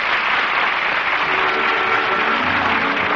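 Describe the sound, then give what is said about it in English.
Sustained applause from a large theater audience at the end of an opening night performance in a little theater off Times Square, as the curtain comes down and the all-star cast acknowledges it; a dense, steady wash of clapping hands that stays loud and even throughout with no voices standing out. “It's part of the Cicely and the all-star cast in front of the footlights acknowledging the applause.”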